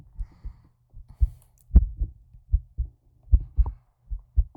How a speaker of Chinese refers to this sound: 喜欢吗？喜欢躺在我的怀里听我的心跳声吗？